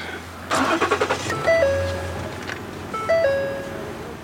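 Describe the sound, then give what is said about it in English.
The engine of a used SUV with 72,000 miles, at a used car dealership in North Austin, cranks with a quick burst of rhythmic pulses, then catches and settles into a low idle, while a two-tone electronic chime sounds twice, clear. “Started up clean. It started up very clean.”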